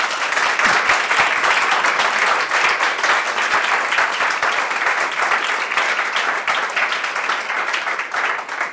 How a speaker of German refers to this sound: Das ist ein sehr vielversprechender, warmer Applaus.